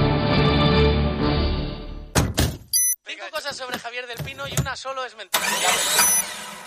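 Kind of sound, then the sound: vehicle, car engine starting up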